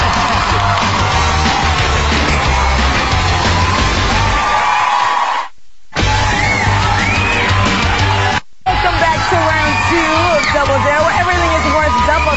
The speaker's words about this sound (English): Round of applause for Gabriel Iglesias, ladies and gentlemen.